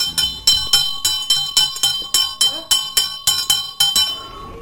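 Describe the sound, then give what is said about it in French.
The assembly bell of the Haut-des-Frais addiction treatment centre in Gerbépal, a bright, high-pitched bell, is struck about a dozen times in a quick, even rhythm, each clang ringing over the next, with the last stroke left to fade out on its own. “Cette cloche, c'est celle du rassemblement du centre de soins des toxicomanies du Haut-des-Frais à Gerbépal.”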